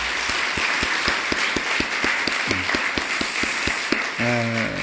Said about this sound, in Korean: 우리 이분들에게 수고했다고 박수로 좀 격려하겠습니다.